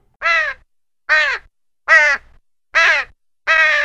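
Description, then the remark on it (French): Large gulls call, five loud, harsh, nasal cries spaced evenly about a second apart with brief silences between, no voices present. “C'est pas des mouettes, c'est des goélands.”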